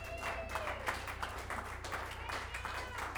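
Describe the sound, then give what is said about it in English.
An audience at an evening band performance applauding: a dense, steady wash of many hands clapping at a constant level throughout, with some crowd voices and a thin whistle-like tone mixed in. “Round of applause for all y'all.”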